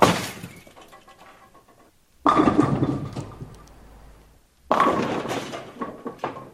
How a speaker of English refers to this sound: Someone bowling.